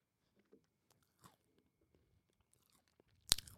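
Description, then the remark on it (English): Mouth sounds of someone chewing crunchy food right into the microphone: soft, sparse crunches and smacks, then one loud, sharp crunch near the end. No talking. “Let me see what I want to all the way crunch and smack in the mic.”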